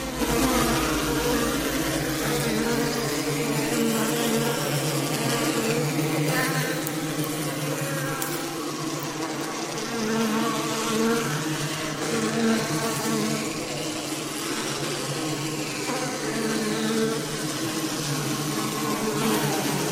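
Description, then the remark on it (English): A steady, dense buzzing of bees fills the whole stretch, a continuous swarming hum with shifting pitches, fairly loud, with no voices over it. “So let's tone or buzz along with these bees here. And here's the bees.”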